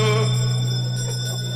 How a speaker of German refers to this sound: Das ist so Wahnsinn, dass wir uns jetzt gerade nichts anderes mehr übrig bleibt, als die letzte Glocke zu läuten zu lassen. Letzte Runde.